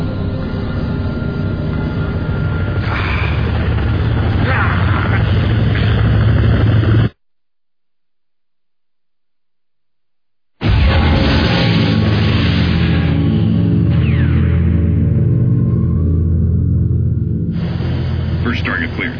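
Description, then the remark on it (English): Three helicopters from Section 9 approach at high speed: a loud, continuous mechanical roar with low droning tones. A few seconds of dead silence break it before the roar returns. Voices are mixed in. “Three helicopters approaching at high speed.”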